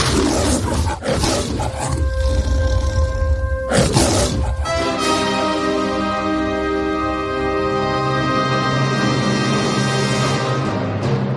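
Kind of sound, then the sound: animal, lion roaring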